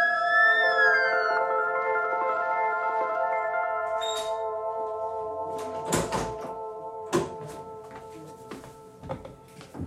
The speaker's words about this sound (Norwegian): Klokken 08.37 stanser han for rødt lys ved Majorstua i Oslo. Det neste han hører er blålys og sirener.